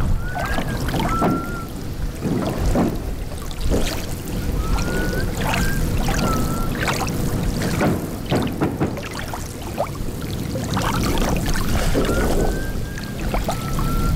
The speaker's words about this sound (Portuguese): ao nosso produtor André Penin que sacasse um pedaço do vídeo em que se ouça melhor o assobio. Portanto, eu peço a todos que façam silêncio. Isto não se ouve da maneira mais clara.